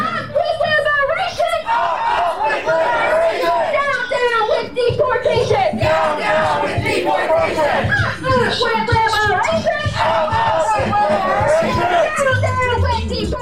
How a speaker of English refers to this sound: The rally was mostly peaceful. People held signs and shouted chants.